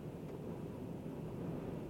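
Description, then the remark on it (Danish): A steady, low roar of strong wind buffeting outside, continuous and fairly muffled for the whole two seconds, with no voices or distinct events. “Jeg tror, I kan, fordi det blæser temmelig kraftigt derude.”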